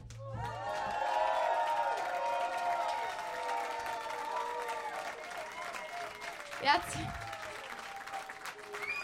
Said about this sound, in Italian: Questo applauso lo dedico al mio DJ ufficiale